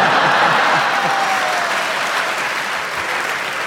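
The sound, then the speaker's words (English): A studio audience applauds loudly and steadily during a show, clapping for a speaker who is lambasting another, a dense wash of clapping hands that continues for a few seconds without easing off. “A minute ago, you were applauding him when he was lambasting me and being so rude.”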